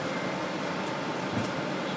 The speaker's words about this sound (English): Well, so far the only thing they've turned on is the air conditioning, and it's noisy. It's noisy.